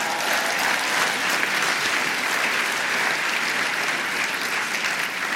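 A steady, loud burst of audience applause, dense clapping from many hands sustained evenly throughout with no voices standing out.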